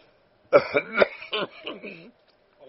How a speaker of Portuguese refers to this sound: Tinha aproximado, eles podem participar da minha tosse, espirros, etc., com mais dramaticidade, né?